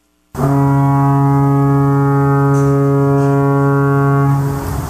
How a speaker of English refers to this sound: What sound is that? That's a foghorn. When it's foggy and vision is limited, you don't know which way you're going.